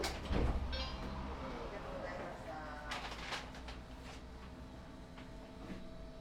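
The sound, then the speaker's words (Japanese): Tram doors slide open at a stop with a brief hiss and a few clunks, over a steady low rumble of the idling vehicle, with faint voices in the background; the tram's next stop is Ōtemachi Ekimae. “開きます。”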